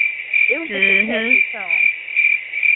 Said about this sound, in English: It was some crickets. We ain't got time for that. Definitely needs crickets. Definitely needs crickets.